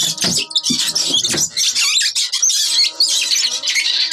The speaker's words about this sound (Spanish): Las ratas, enloquecidas y hambrientas, chillan furiosas y buscan un sitio donde clavar sus colmillos.